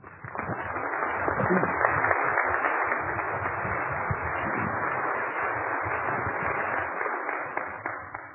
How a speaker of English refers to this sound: Don't applaud, throw money, please.